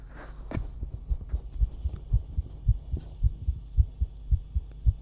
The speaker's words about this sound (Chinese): 是小姐姐的心跳音，比一般人会快很多。对吧？我没骗你。